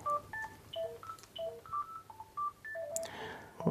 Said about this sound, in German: Oh, Entschuldigung, da klingelt gerade ein Telefon. Warte mal, ich muss das gerade mal